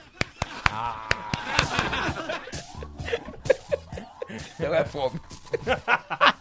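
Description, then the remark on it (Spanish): Sharp, evenly spaced claps tap out a trotting rhythm imitating a horse walking (the 'horse clap'), with voices and chuckling laughter mixing in as the clapping continues irregularly. “Este es el aplauso del caballo. ¿Cómo camina el caballo?”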